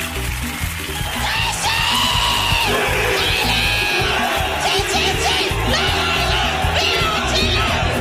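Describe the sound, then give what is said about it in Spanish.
A loud, strained Chilean cheer is shouted by a person, the yelling voice holding steady and intense for several seconds over a dense, noisy background. “Que grite un CHI o que diga un garabato o que diga sipo y lo grite fuerte, no va a faltar el chileno que le va a responder.”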